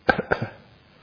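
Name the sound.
cough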